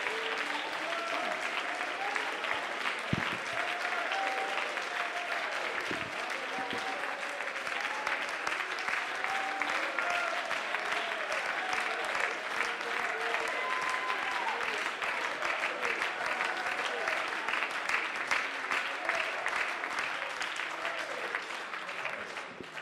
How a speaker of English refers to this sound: Somebody shout, in Jesus' name. Why don't you give the Lord one more hand clap of praise right now? Maybe close your eyes and give him a shout of praise. Hallelujah. Hallelujah.